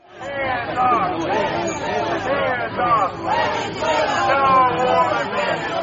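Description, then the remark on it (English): A crowd of protesters supporting Maduro, waving Venezuelan flags across the street from a courthouse in lower Manhattan in the early morning, chants and shouts together, many overlapping voices forming a loud, steady roar that holds for about six seconds, with a brief dip partway through. “there was a group of protesters across the street voicing support for Maduro. The group was waving Venezuelan flags.”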